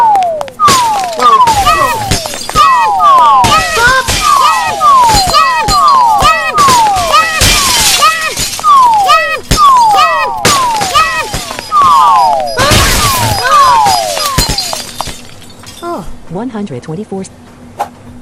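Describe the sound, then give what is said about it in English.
Light bulbs drop one after another, each with a quick descending whistle ending in a bright, glassy shatter. Loud, rapid and overlapping throughout, then thinning out near the end over a low steady hum. “There seems to be a switch at the right side of this room, but bulbs are falling like rain.”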